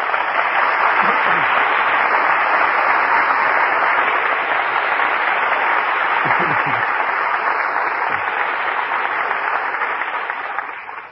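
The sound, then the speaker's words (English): A studio audience applauds steadily for about eleven seconds as the evening's stars, Humphrey Bogart and Walter Huston, are brought out for a curtain call: a dense, even wash of clapping with no voices, fading slightly right at the end. “For drama that rates the applause of this audience, our thanks go to this evening's stars.”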